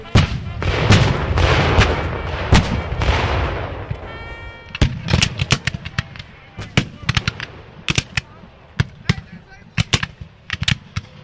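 Loud cannon fire from a Civil War battle reenactment of the battle between Confederate General Joe Johnston's forces and William T. Sherman's Federal Army: heavy, rumbling booms roll together at first, then give way to a long, irregular string of sharp blasts and cracks.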